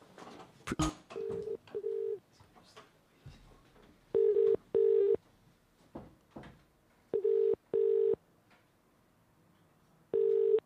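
A phone call placed from the Indie Live Radio show: a phone number is dialed with quick tones and clicks, then a steady double-burst ringing tone repeats several times at even intervals, fairly loud, with quiet gaps between rings.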